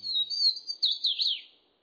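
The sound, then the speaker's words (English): Nimble, high-pitched bird song rings out from a tangle of vines in the southern U.S., a quick run of warbling chirps and slurred notes, clear, with no talking and faint quiet background. “Nimble notes ring out from a tangle of vines in the southern U.S.”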